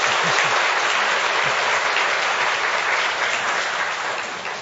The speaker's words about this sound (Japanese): もう一度温かい拍手を持ってお迎えします。